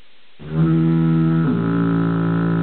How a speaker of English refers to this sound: No, I wanted the foghorn, man. I got the foghorn handy. Where's the foghorn? Give me a foghorn on that fucker, man.